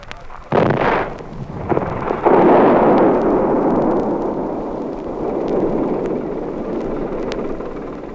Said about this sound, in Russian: Вся работа взрывом кончается.